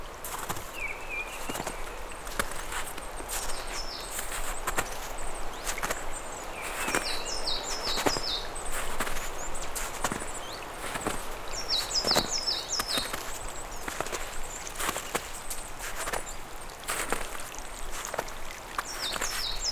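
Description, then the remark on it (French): Birds sing in short, high chirping bursts that come and go over a steady background of trickling, splashing snowmelt water in the high mountains in spring, among lingering patches of snow, with occasional sharp crunches or drips. “Orchestrées par le chant des oiseaux.”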